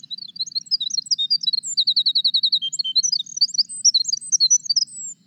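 winter wren song

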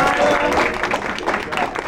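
round of applause

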